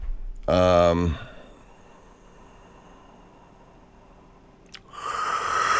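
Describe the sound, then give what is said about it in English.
A loud yawn with a brief voiced groan, followed by several seconds of near silence, then a sharp click and a rush of breathy noise near the end. “Pardon me for yawning, guys.”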